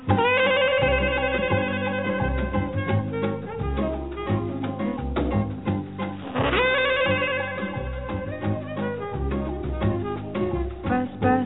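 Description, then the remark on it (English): A telephone bell rings in bursts at the opening of a song, its trilling tone sounding again partway through over a full, steady band accompaniment with drums and bass. “I could give you a telephone song.”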